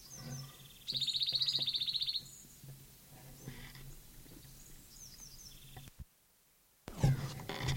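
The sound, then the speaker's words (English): A wild songbird sings a loud, rapid high-pitched trill lasting over a second, followed by scattered thin chirps and softer notes, a brief pause, then a burst of sound. “This is Closer Singer, the bird that I've been recording for an hour.”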